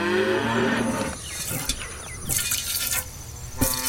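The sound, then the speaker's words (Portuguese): A cow lets out a low, drawn-out moo that fades after about a second, followed by soft rustling and a few brief splashy bursts and clicks over a steady background hum, as a peasant woman milks the cow in the small town of Berkeley, southwest England, in 1772. “Essa camponesa que tá ali tranquilamente ordenhando uma vaca foi quem ligou um sinal de alerta na cabeça de um médico inglês chamado Edward Jenner.”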